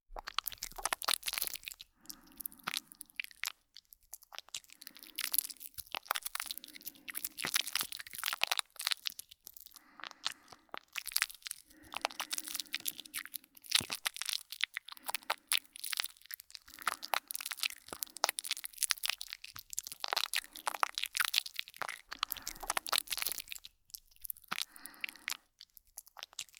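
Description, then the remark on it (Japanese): Shampoo being worked into a lather between palms right by the ear: continuous wet, crackly squishing and bubbling in irregular bursts, fairly loud, with brief pauses and no talking. “ではシャンプーを髪につける前に、手のひらにとってしっかりと泡立てます。せっかくだから耳元でやってあげるね。”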